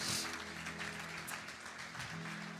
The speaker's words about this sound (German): Amen und Amen. Lass uns Gott nochmal einen riesen Applaus geben.